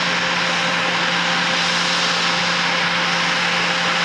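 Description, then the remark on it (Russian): A loud, steady roar of an airplane's engines as it lands at Novokuznetsk airport in Kuzbass, Russia, with a constant low hum and broad hissing rush that holds level throughout, no voices present. “В канун празднования Дня шахтера, традиционно отмечающийся в последний воскресный день августа, в Новокузнецком аэропорту с Печенкова приземлился самолет, который в Кузбассе ждали долгих 17 лет.”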